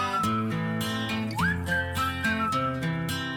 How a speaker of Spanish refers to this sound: Dame un silbidito.